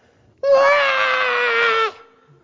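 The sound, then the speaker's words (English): A voice imitates a little child screaming on a plane flight with one loud, sustained, high-pitched wail of about a second and a half, steady, then it cuts off abruptly into quiet. “But the next flight, the same little child with different people sitting around him is screaming.”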